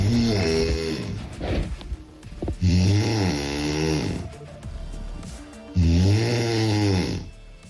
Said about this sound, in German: Sie haben uns in der letzten Woche so viele Schnarchgeräusche geschickt.